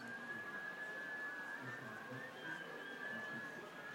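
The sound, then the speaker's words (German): Boys trying to whistle together, holding one steady high note for several seconds with a slight waver, over a breathy, noisy background. Nobody speaks. “Und jetzt die Jungs, die versuchten zu pfeifen.”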